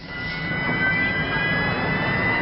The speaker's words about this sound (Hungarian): Rendőrautók lepték el a bevásárlóközpont környékét, a levegőben pedig helikopterről figyelték a terepet.